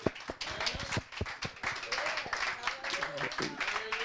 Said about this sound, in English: Let us just clap hands for Jesus Christ.